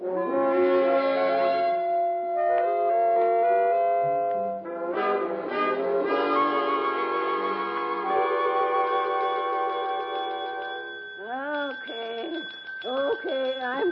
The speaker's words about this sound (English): I'm coming. Sick and tired. I'm sleeping and hearing the bell.